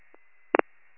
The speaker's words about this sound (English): the fire bell.